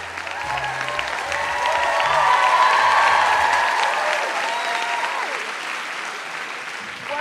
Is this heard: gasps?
no